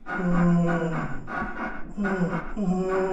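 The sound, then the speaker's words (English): A weird, drawn-out creaking, like a slow groaning hinge, comes in a few long pulls with wavering, gliding pitch and a rough, strained tone. “And there's this weird creaking sound.”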